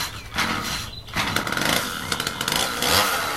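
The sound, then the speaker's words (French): A chainsaw roars steadily, its harsh buzzing engine rising and falling in pitch as it revs, loud, with no talking over it. “Bah, qu'est-ce que c'est que ce bruit de tronçonneuse?”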